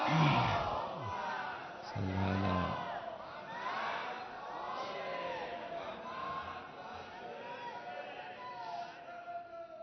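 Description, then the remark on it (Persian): A large crowd at an Islamic lecture chants a salawat together, asked by the speaker to recite it louder, in a loud, sustained wave of many overlapping voices, rising and falling in unison for several seconds with a steady, rhythmic swell. “ناراحت نمیشید بگم یه صلوات بلندتر بفرستید.”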